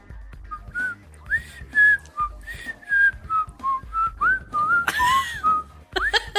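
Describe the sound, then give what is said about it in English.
A person whistles the bright, bouncy theme tune of The Andy Griffith Show alone, with clear sustained pitched notes rising and falling in a steady melodic rhythm and a slightly breathy finish. “Now you can whistle it for 5 day points if you want.”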